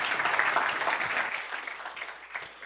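A crowd claps steadily, a dense wash of many hands at moderate volume that gradually thins and fades toward the end. No one speaks over it.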